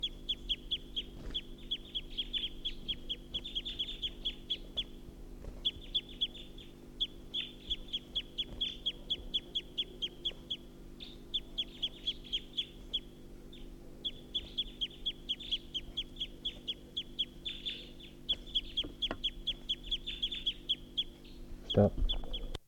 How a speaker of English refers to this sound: So recording, this is a wild bird perched at the tall pine.